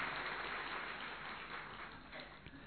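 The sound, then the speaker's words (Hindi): A crowd applauds in a dense, steady wash of many hands clapping at once, holding fairly even loudness for a few seconds before thinning slightly at the end, with no voices. “फिर ताली तो बजाओ ना जरा अच्छे तरह से।”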